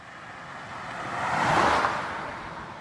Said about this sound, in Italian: Per qualche chilometro in questo primo tratto della Wachau, le macchine corrono di fianco a noi. E anche se abbiamo una pista assolutamente riservata ai ciclisti, il fastidio è forte.